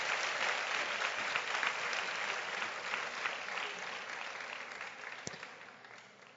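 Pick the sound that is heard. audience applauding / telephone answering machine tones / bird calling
audience applauding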